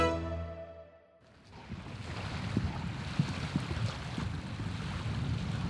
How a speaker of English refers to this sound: It's a fine summer morning, 60 kilometers north of Amsterdam. A vintage vessel is taken to the sea, carrying a curious bunch of explorers.